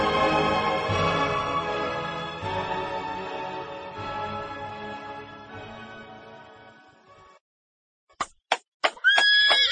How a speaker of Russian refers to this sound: После, оседлав коня, он поехал в путь далекий, громко сбруею звеня.